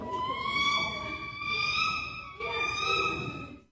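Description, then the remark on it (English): A voice imitates a bald eagle call: a shrill, drawn-out, slightly rising squeal, repeated in three sustained bursts, the last after a brief break, fairly loud with no talking. “Oh, here's the eagle. This is a bald eagle.”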